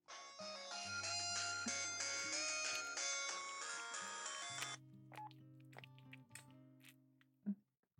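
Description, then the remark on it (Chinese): A melodic phone ringtone for an incoming call plays loud for about five seconds, then cuts off, leaving a quieter low hum with scattered clicks and a brief thump near the end. “怎么这个时候来电话呀？”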